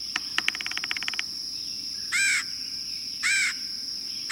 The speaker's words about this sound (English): There are ways we can help the red-headed woodpecker. The key is to leave snags intact. The woodpeckers will prosper even in city parks and on golf courses as long as managers protect snags.